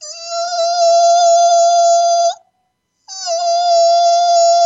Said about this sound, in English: Here's 741 hertz, awakening intuition.